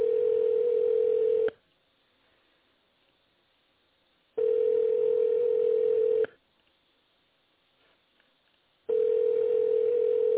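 A telephone ringback tone while dialing a number that is not answering: a steady mid-pitched hum sounds in three bursts of about a second and a half each, separated by longer silent gaps, heard alone over a narrow phone line.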